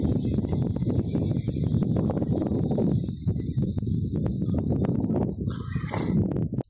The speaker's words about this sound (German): Hört ihr auch über Kopfhörer zu? Also der Wind hat einen wunderschönen Stereo-Effekt. Das ist wirklich, als würde man draußen stehen.